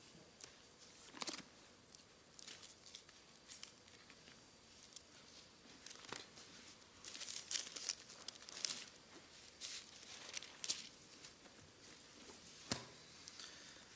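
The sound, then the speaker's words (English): Thin Bible pages being flipped to John 13, with soft, crisp swishes and papery crackles coming in irregular bursts, a few sharper flicks standing out. It is fairly quiet and no one speaks. “Man, I just love hearing the flipping pages.”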